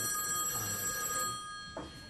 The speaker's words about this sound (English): You know, usually when that phone rings, it's the wrong number,